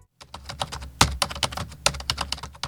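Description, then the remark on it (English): Rapid, uneven, angry typing with fingers on the keyboard of a work laptop, fairly loud, with dense clusters of sharp key clicks and a few heavier strikes, no voices present. “I angrily and furiously tap my fingers on the keyboard of my work laptop.”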